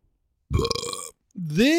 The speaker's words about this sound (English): This is, should we just watch it real quick, the only podcast that will start with a burp.